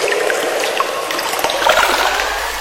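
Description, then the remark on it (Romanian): Water trickles and sloshes steadily, a busy bubbling wash with small splashes scattered throughout and no voices. “Am căzut într-o apă sărată. Apa-mi ajunge până la bărbie.”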